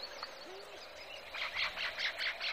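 A dense natural chorus in a healthy habitat, birdsong with chirps and calls layered together as birds join the insects, reptiles and amphibians, building into a rhythmic series of bright, repeated bursts over a steady background hum of other creatures.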